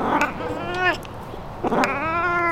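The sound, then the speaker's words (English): A cat named Felix lets out two long, drawn-out raspy meows, the hoarse cries separated by a short pause, with no talking; he meows at a back door to get someone to come out and pet him. “Felix, he lives a building down from me, and he comes to my back door and does this really raspy meow to get me to come out and pet him.”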